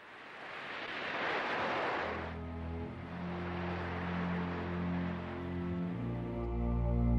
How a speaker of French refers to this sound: Il intervient après avoir frappé un obstacle dur et peut déplacer les matériaux de haut en bas, entraînant un échange de sédiments entre les rivages. Le ressac crée du mouvement entre les rives.